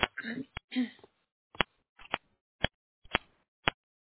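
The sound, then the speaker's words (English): Sharp, crisp clicks coming from a participant's line on a group call repeat at irregular intervals, about seven or eight in four seconds, distinct. A brief muffled voice is heard at the start, with the clicks continuing on their own after it. “We'll see if we can find that clicking.”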